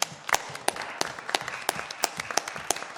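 A small group of people applauding, a steady patter of overlapping hand claps with a few sharper, louder claps standing out at a moderate level, no talking.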